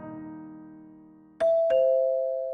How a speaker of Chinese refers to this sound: 中午了，门铃突然急急响起。